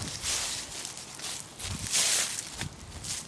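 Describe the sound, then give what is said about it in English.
Footsteps of a person on a walk crunching through dry leaves and branches, a steady series of crackly steps with bright rustling bursts, heard alone without any talking. “again you will hear my footsteps on the dry leaves and branches.”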